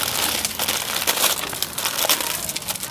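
Continuous crinkling of plastic packaging as a package holding rice and Thai soups is unpacked, a dense crackling rustle with frequent sharp bright crackles that rise and fall in loudness throughout, with no voices.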